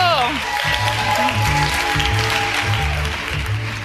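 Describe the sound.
A round of applause for a guest at a live show of Last Meals, a steady wash of many hands clapping at moderate loudness, continuing for several seconds while voices speak over it.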